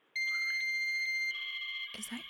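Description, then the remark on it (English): A dial-up modem sounds off: a loud, steady high-pitched tone shifts into a harsher, warbling cluster of tones, then breaks into a burst of hissing static. “Are you dialing? Is that your modem?”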